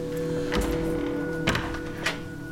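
A house door is eased shut quietly after dark as someone lets herself in, with a few soft, muffled thunks and latch knocks spaced over a couple of seconds above a steady low hum, and no voices.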